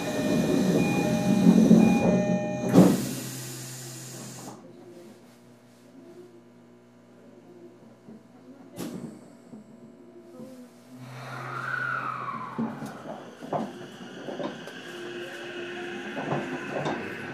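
A JR Chuo Line commuter train bound for Mitaka pulls away from platform 2 after its doors close, with a low electric motor whine, metallic rumbling and a brief screech or hiss, the sound fading to a steady interior hum before rising again as it picks up speed; next station Nakano.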